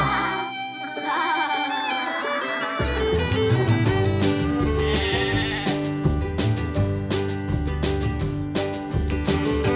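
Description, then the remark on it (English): Wavering goat-like bleats ring out over an upbeat, bouncy song with steady percussion, the bleating sung or imitated in a quivering voice and repeating close and loud throughout. “I hear you, can you hear me? Yes, I hear you bleating, ha, ha, ha.”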